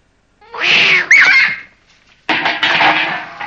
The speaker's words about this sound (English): It's only a cat.